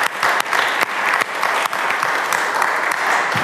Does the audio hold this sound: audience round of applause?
yes